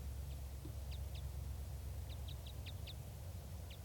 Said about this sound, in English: I'm at the net right now and I can see a red crossbill, red male, up in the top of a tree, and it sounds like a type 5.